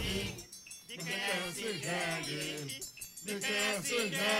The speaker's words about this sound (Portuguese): Ah, rapaz, não é reggae não, é jumento.